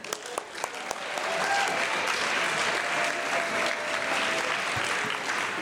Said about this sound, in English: right, we can clap for that now.